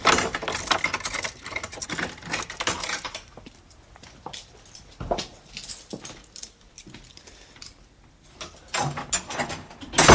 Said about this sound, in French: Mais écoutez, le miracle va se produire. Non, je vais quand même vous ouvrir cette porte.